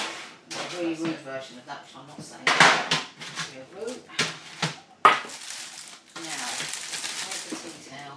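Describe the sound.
A heavy saucepan of boiling contents is shifted around, with a couple of sharp metallic clanks of pans knocking together, while people talk over the clatter.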